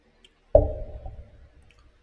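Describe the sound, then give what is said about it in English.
A single quick sip from a drink of Pinnacle Vodka with lime and water, a sudden wet onset with a faint tonal ring that fades out over about a second, with no talking around it. “So let's take a little sip.”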